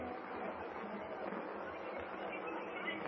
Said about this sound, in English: Now, if we pick up Lincoln's Gettysburg address the way we did this afternoon, the machine's fixed. Pray, Kent. Pray, I'm throwing the switch. There's the murmur of the crowd.